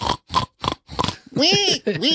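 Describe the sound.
A person imitates a pig: four quick, rough oinking grunts in a row, then a couple of higher, wavering squeals to finish.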